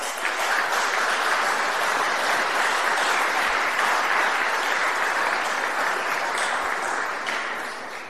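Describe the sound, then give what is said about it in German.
Sustained applause from an audience at a church service for those who performed its music, a dense steady wash of many hands clapping at an even loudness for about eight seconds, tapering off slightly at the very end. “Und ich denke, das ist erstmal ein großer Applaus wert.”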